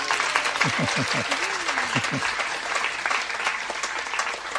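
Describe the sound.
An audience breaks into steady, dense applause, a sustained wash of clapping that holds at an even volume throughout, with a brief voice or cheer rising faintly underneath early on.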